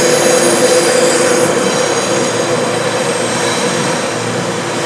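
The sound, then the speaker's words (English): A very loud train rumbles past, a dense steady roar of wheels and rails with high metallic squealing tones running through it, filling the whole moment without any voices. “This is a very loud train. Let's wait for that to go past.”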